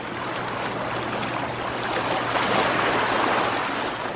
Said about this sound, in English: The flat-deck ferry that's taking us across the river from Manaus goes under the towering steel